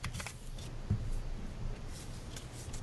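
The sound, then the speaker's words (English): Soft, papery shuffling of playing cards, a few quick riffling bursts at the start giving way to a steady low rustle. Fairly quiet throughout, with no one talking. “I hear card shuffling.”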